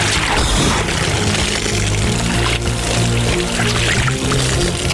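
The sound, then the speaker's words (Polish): A heavy rush of cold water splashes and pours continuously for several seconds, loud, as a bucket of cold water is emptied over a man at Lake Łopienno by custom after he caught the biggest fish of his life. “Mamy taki zwyczaj, że jak to złowi, znaczy jak złowisz swoją największą rybę w życiu, no to zostajesz oblewany wiadrem wody. Zimnej wody, dodajmy.”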